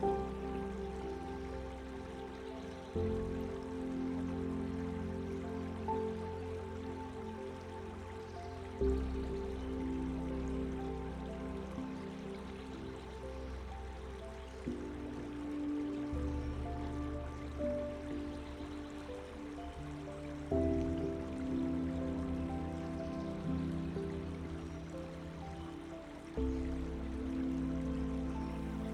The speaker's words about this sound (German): Das Geräusch des Baches führt dich tiefer in einen Zustand der Entspannung.